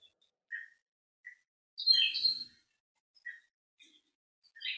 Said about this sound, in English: It's just simply noticing the flower in our garden, the smell of incense in our home, the sound of the birds outside.